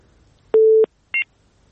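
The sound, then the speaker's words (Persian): Electronic phone-line tones after a listener's call to a radio program drops: a steady low tone lasting about a third of a second, then a brief higher two-pitch beep after a short pause, fairly loud. “بله، شنونده ما قطع شد تلفنشون.”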